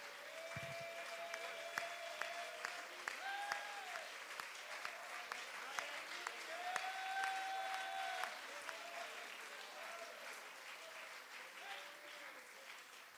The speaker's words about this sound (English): Let's all give God a hand clap of praise.